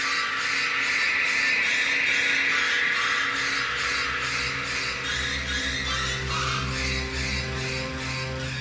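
Loud, shrieking violin stabs repeat in a rapid, relentless rhythm over sustained low strings, forming a harsh, piercing orchestral film-score passage for Hitchcock's shower sequence, with no voices.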